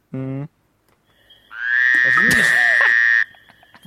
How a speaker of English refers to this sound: What was that? It's a frog in our cave! Okay. Oh, no. That was quite loud, though. Oh, Yeah, well, they can be very loud, those frogs.